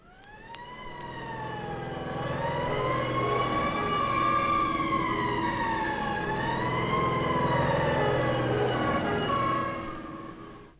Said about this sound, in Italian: E la sirena dei pompieri.